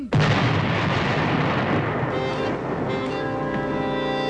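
Heavy gunfire from American troops attacking Lord Cornwallis's British forces erupts loudly, a dense sustained barrage of booming shots and crackling blasts that rolls on continuously with a rumbling, battlefield-like intensity.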